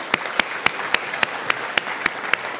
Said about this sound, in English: We can have a round of applause for them.